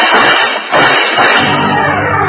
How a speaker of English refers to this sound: He made it to the staircase, and then the noise came. A couple of bullets flew up the spiral and caught him in the chest.